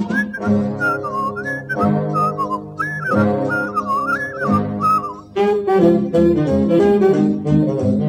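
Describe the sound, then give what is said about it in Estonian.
Someone whistles a bouncy melody in clear tones over steady instrumental accompaniment; after about five seconds the backing music grows busier and fuller beneath the tune. “ja kui õhus on tunda, et nohud on mai, ma sellele vilistan vaid.”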